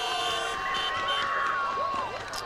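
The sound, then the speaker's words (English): An end-of-game siren at Bisnell football ground blares a steady, high, sustained tone over a loud, cheering crowd as Lara defeats St Albans, with a few short sliding whistles near the end. “And there's the siren.”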